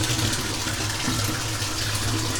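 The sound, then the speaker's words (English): Hot water gushes steadily from a tap, a continuous, fairly loud rushing splash that holds an even level throughout, with no voices. “Good thing I have lots of hot water.”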